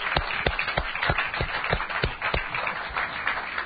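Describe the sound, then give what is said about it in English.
A group of people clapping together as a clap offering to the Lord during prayer, a dense, steady patter of many hands with sharper individual claps standing out, fairly loud and continuous without any voices. “Let's just give the Lord a clap offering.”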